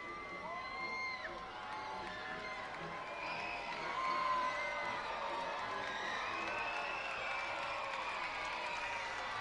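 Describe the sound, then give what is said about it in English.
A large ballpark crowd cheers and shouts in a steady roar in the ninth inning, urging on its team, down by four runs and down to its final out, with scattered whoops and voices rising above it and a swell of excitement midway through. “Crowd trying to will this Birds team on just a little bit more here in the ninth.”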